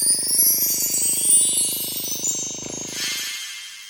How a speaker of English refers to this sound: A harmless little toothbrush.